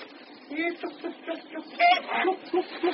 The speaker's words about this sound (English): Hey, geese over there, are they? Or swans or what?